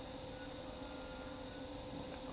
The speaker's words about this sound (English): Train.